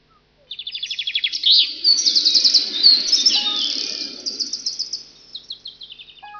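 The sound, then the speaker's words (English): Birds chirp busily and continuously in a park, a dense overlapping chorus of quick high tweets and trills, fairly loud, with a faint low rumble of outdoor background beneath. “I can hear birds. Yes, we're in Bird Park.”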